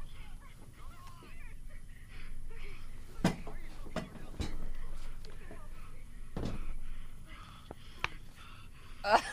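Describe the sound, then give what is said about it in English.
Heavy breathing of two people making out during a break while hanging in the air on the way down, in Norway, steady, with raspy, wheezing breaths and a few sharper gasps standing out over a low background hum. “There's a lot of heavy breathing that might sound like something else.”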